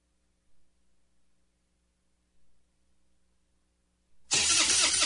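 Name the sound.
truck engine cranking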